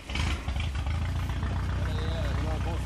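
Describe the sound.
A tractor engine runs steadily, a loud continuous low rumble with a throbbing idle, as it pulls bins full of fruit through rows of leafy trees in a nectarine orchard, while brief higher tones and faint voices drift over it.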